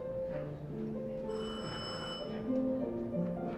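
A doorbell rings once on a September Sunday afternoon, a bright, high metallic tone lasting about a second, sounding over a steady, busy background of low tonal hum that continues throughout.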